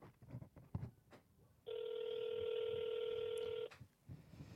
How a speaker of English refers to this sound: I'm going to try to call this and I'm going to try to put it on speakerphone. All right. Can you guys hear that?